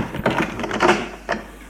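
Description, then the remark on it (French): A door opens, with a cluster of latch clicks and a brief scraping rustle, then a final soft knock as it settles. No one speaks. “La porte s'est ouverte.”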